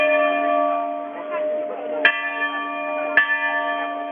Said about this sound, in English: At an Orthodox church, the bells tolled in mourning as black-robed monks and nuns came to express their grief.